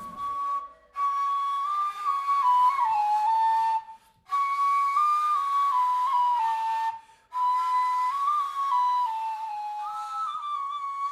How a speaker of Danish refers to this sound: Ja, det er den her. Den hedder duduk. Det stammer fra Armenien. Det er armensk instrument. Det er meget sorglig og melankolisk instrument